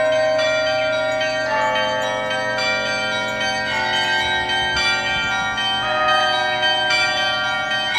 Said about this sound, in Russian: Послушайте, как будут звучать колокола подзвонные и зазвонные, если их вместе совместить.